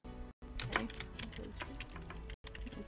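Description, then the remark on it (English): Quick, uneven clicks of someone typing an address into a journey planner on a computer keyboard, steady over a low background hum, with brief pauses between bursts of keystrokes. “Beth starts typing Tennis Court Road into a journey planner that we can see on the computer screen.”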